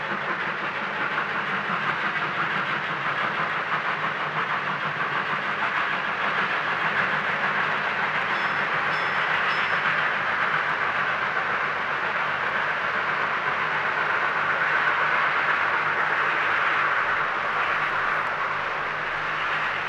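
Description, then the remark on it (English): A steam train speeds off into the King Country night, recorded by Peter Mellor and Dawson Wilkinson, a dense continuous roar of wheels and steam holding fairly loud throughout, with no voices. “It's one of the many steam trains recorded by Peter Mellor and his friend Dawson Wilkinson speeding off into the King Country night.”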